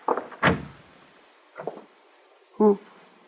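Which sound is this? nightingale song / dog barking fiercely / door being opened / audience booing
door being opened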